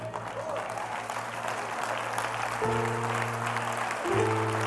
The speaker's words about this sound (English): Now, I said it, you clapped, but that's not good enough.